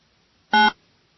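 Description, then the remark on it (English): A single short keypad tone from an old telephone beeps once, loud, with a bright buzzy edge, as a number is dialed. Silence surrounds it and no one speaks. “We'll get the old phone up here.”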